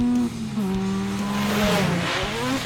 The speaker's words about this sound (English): A tall motorized sleigh roars towards him through the trees.